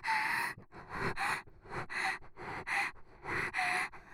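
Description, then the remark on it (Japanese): Breathy panting with soft voiced moans woven in, about eight quick rhythmic breaths in steady succession, fairly loud and intimate, with no speech. “私の喘ぎ声混じりの吐息、そんなに興奮しますの？”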